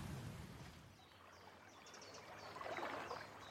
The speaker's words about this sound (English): The sun beats down on Lethem Burn, tumbling and twisting to join the Tyne. The day is hot, the clouds are few, the water sings.